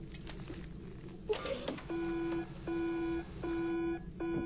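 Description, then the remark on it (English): After some brief clattering handling noise, a sample-testing machine sounds a loud electronic alarm for a hot sample in four long, evenly spaced beeps, each a steady pitch with buzzy harmonics. “My God, what's wrong with the machine? There's nothing wrong with the machine. It's a hot sample.”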